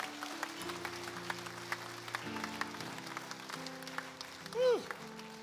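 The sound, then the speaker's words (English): An audience claps in a steady rhythm over sustained organ chords, with a single rising-and-falling vocal whoop near the end. “Oh, come on, clap if you're clapping.”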